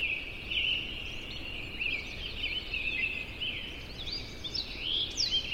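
A dawn chorus of many birds in Yosemite National Park, with overlapping high chirps, whistles and trills blending into a continuous, busy layer of song, with no talking.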